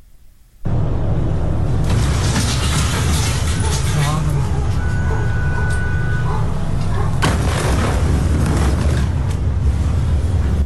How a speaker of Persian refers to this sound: شامگاه سه‌شنبه انفجار بزرگی بیروت پایتخت لبنان را تکان داد.